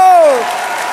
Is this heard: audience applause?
yes